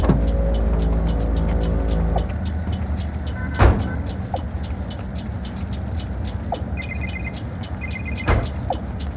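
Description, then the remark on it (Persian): A car engine idles, kept running for a getaway, with a steady, low rumble that holds throughout, broken by a couple of sharp clicks and faint short beeps. No one speaks. “واسه فرار ماشین روشن نگه دار.”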